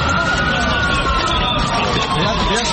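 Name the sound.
ambulance sirens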